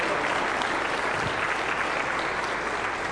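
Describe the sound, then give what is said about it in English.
A church audience claps for someone who has just prayed for the first time, a dense, even wash of applause that holds at the same loud level from start to finish, with no voices rising above it. “And I don't know who prayed that today for the very first time, but whoever you are, the rest of us would like to give you a big applause and say, congratulations, way to go, welcome to the family of God.”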